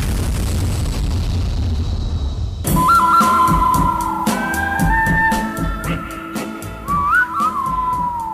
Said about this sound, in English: I can't whistle. That's not very good.